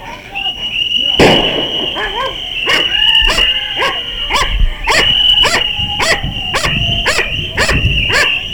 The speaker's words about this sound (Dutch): Nou, dat is dan de hond. Een beetje agressieve blik. Met een meter van een lijn van ongeveer een meter of tien ongeveer.